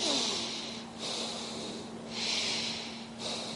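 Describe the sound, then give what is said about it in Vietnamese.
Heavy, forced breaths drawn in and pushed out in a steady rhythm, about three audible cycles, loud with a hissy airy texture and no talking. “Thở cứ nghe mình hít hà hoài đó.”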